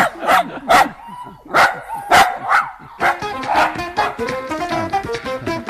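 Loud dog barking in sharp repeated bursts, a few spaced barks at first, then a rapid, nearly continuous volley with some higher yipping and whining mixed in.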